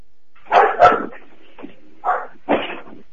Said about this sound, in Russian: Без гавка.